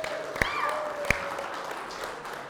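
An audience applauds in a steady, dense wash of clapping that lasts throughout, with two sharp, louder claps standing out and faint whistle-like tones drifting over the noise.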